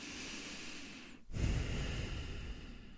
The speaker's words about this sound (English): We can be grateful for this deep breath that we're taking.